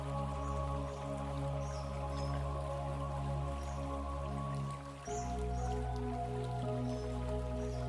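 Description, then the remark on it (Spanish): A steady wash of flowing stream water, constant and moderately loud, with small dripping and trickling details over a low sustained hum. The texture shifts abruptly about two-thirds through, then continues without speech. “Siente cómo las preocupaciones o cualquier otro pensamiento es arrastrado por la corriente alegre del arroyo.”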